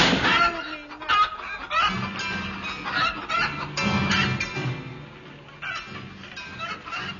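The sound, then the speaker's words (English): A huge piebald chicken, harnessed to a piano and driven away, clucks repeatedly and busily, fairly loud, with a dense, cluttered background running under it the whole time and no one speaking. “In a trice, they harnessed my piano to a huge piebald chicken and drove it away.”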